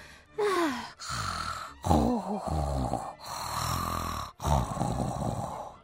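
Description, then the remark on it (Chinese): A voice imitates the big bad wolf's loud, exaggerated snoring in a Little Red Riding Hood story: about five drawn-out, rumbling breaths in a steady rhythm, fairly loud, with short pauses between each snore. “大野狼一下子就睡着了，还开始打呼了呢。”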